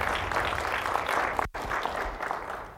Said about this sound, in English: Let's give the Lord a good clap offering, amen.